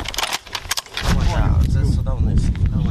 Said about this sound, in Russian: Дуже потужна зброя, Браунінг калібр 12,7. Противник її дуже боїться через те, що вона дуже подавляє і можна працювати на великі дистанції.